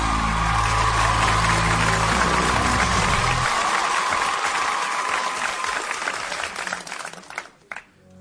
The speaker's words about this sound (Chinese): 好，那我们就让他来摇一回。来，预备， 掌声鼓励。